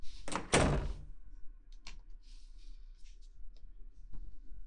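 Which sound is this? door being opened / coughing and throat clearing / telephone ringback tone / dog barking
door being opened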